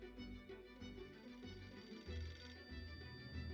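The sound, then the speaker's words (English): A telephone in Abiola's home office in Ikeja rings with a steady, tonal electronic ring, fairly quiet and continuous over a low background rumble. No one speaks. “Across town in Ikeja, Abiola is having a meeting with his SDP faction at his home office when his phone rings.”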